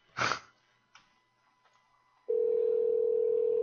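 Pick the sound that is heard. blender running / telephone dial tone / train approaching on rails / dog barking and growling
telephone dial tone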